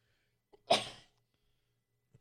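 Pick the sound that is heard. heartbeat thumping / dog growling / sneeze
sneeze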